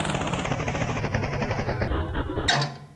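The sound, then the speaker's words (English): A helicopter, Ballycopter, lands right next to a sheep. Its rotor chops in a steady, loud, throbbing rhythm, then a sudden hissing burst as it touches down, with the noise quickly fading away. “But then Ballycopter lands right next to him.”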